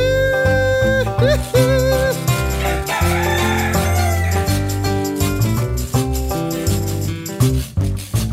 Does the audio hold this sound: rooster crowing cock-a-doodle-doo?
yes